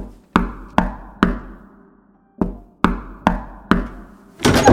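Two sets of three sharp, resonant knocks on a door, evenly spaced with a pause between the sets, followed by a brief burst of rushing noise at the end.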